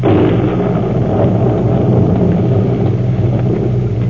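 Loud, rolling thunder from a storm at night rumbles steadily through the whole stretch, a deep continuous roar with faint crackles on top and no voices.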